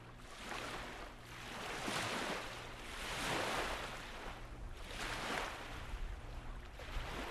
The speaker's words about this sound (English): The waves washing ashore look more like green latex paint than lake water.